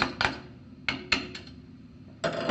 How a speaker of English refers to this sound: I'm going to locate my takedown pins, my rear takedown pin and my front takedown pin. Get my punch, and I'm going to go ahead and knock them through.